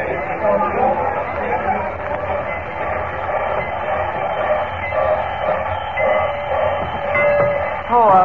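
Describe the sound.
A busy train station: a steady rumble of rail noise with a dense murmur of crowd chatter throughout, continuous and fairly loud, with indistinct voices mixed into the background.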